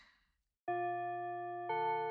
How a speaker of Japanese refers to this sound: ああ、ほら、みんなも聞こえただろ？チャイムも鳴ったし、そろそろ教室に向かおう。